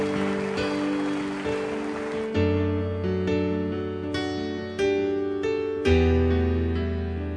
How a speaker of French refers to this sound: Et ça, je pense qu'on peut l'applaudir de toutes nos forces, de tous nos cœurs, alors qu'on arrive à la fin.